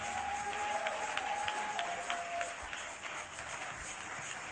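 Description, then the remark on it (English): A crowd claps in a dense, steady patter of overlapping hand claps, a broad wash of applause with a faint sustained tone lingering beneath for the first couple of seconds. “Are you clapping?”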